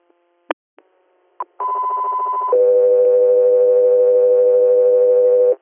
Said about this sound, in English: Stand by for tones.